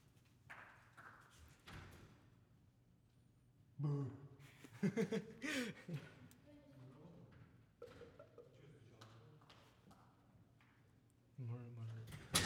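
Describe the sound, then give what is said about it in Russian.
Several sharp knocks on a door come in quick bursts, fairly loud, with people talking around them. “открой дверь, пойди, кто-то стучит.”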